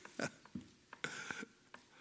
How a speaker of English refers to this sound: Don't you just love to hear those pages turn? I just had to wait for a moment and listen to that.